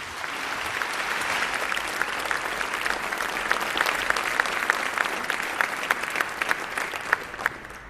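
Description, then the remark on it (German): An audience applauds steadily for several seconds to welcome the speaker of the next talk. It is a dense wash of clapping with some sharper individual claps standing out, holding a fairly even loudness throughout with no voices. “Bitte einen sehr herzlichen Applaus”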